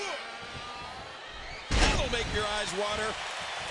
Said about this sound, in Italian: Sorta di facebuster da parte di Ambrose. O di elettricità invertita più che altro.